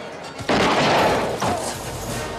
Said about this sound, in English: Hendry's gun is shot from his hand.